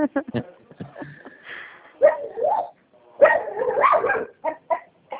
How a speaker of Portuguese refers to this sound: Tá brabo, cachorro. Esse cachorro aqui é complicado.